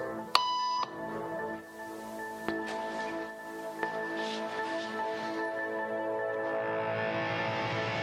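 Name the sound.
electronic beep tone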